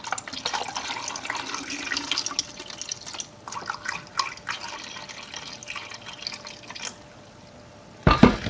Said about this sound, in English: And for this, I'm just going to use the tap water. I'm just going to pour it right in.